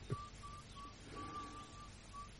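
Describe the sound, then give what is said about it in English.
Someone whistles a simple tune in short, steady notes with small gaps between them, heard fairly softly against a low background hiss and rumble. “You hear that whistle, the members of the jury?”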